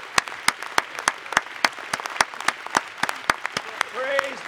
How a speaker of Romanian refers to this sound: Haideți doar să-L aplaudăm.